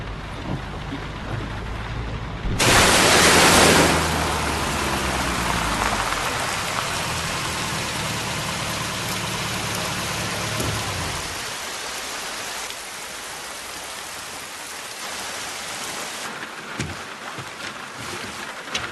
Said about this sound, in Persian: چرا یهو بارون گرفت؟